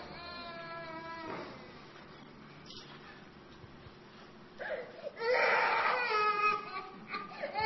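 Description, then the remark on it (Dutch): A baby cries in wavering, high-pitched wails, starting with a drawn-out cry, pausing, then returning louder and more urgent in bursts toward the end. “Nou, ik hoor een baby huilen, maar ik zou graag even een baby.”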